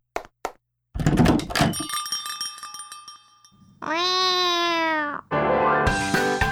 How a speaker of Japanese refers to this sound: とっても可愛い猫たちと、こだわりの入れたてコーヒーがあなたをおもてなし。猫カフェ、名探偵コニュン。